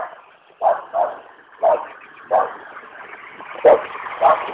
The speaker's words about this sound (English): Oh, shut up, dog. Stupid animal.